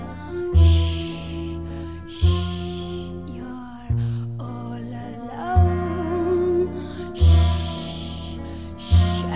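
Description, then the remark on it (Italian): Loud, breathy inhales and exhales alternate with deep, regular heartbeat thumps, set against sustained musical tones; there's no talking. “Respiro, battito cardiaco.”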